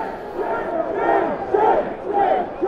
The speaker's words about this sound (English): And the crowd was screaming at them, shame, shame, shame.